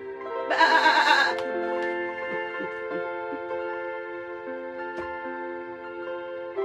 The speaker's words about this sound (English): And then he heard the sound of that one little sheep.